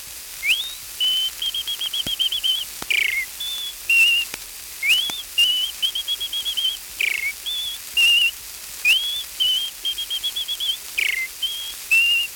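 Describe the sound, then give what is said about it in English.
A human whistler imitates a wren's morning song: repeated bright, high-pitched phrases with quick upward slides and warbling trills, clear, with short pauses between bursts and no talking. “A wren is a small bird that whistles early in the morning like this.”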